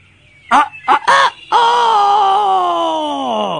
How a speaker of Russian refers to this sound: Вдруг стучится на рассвете петушок горластый Петя.